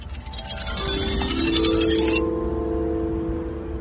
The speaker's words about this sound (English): So I am down by the dock near the entrance to the Museum of Glass. And there are these, I guess you could call them xylophones. but they are outdoors. All of the mallets are gone, so I just used my hands to play them.